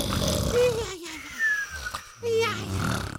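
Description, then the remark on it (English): Loud, exaggerated snoring in a few rough, wheezing bursts with whistling pitch slides between breaths, likely a voice imitating snores, with no other talk. “If this sounds like you or your partner, get down to the Snore Store.”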